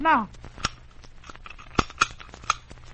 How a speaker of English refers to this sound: Well, now wait till I get the key in the lock.